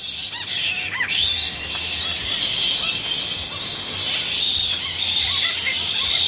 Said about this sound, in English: If you're wondering what Egyptian fruit bats sound like, I have a little sound clip here that I'm going to play for you right now.